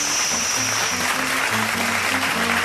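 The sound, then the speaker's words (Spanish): A steady wash of applause in a studio welcoming a guest food engineer, many hands clapping continuously at an even level, with a low, stepping musical line playing underneath. “que si yo tengo que... aplausos.”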